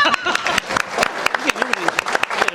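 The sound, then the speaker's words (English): An audience applauds to welcome an editor at a media center event, a steady patter of many hands clapping, with some voices murmuring underneath. “Round of applause.”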